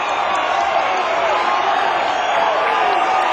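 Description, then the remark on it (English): A dense concert crowd at a singer's show, gathered down front and calling for an encore, roars continuously, with overlapping shouts of "We want more" and cheers forming a loud, steady wall of voices that never lets up. “The crowd has worked their way down front. And as you can hear, they're shouting, "We want more."”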